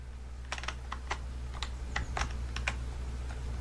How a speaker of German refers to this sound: Vor allem, wie laut man auch die Tasten bei ihm hört. Hat er sein Mikro in der verdammten Tastatur drin, oder was?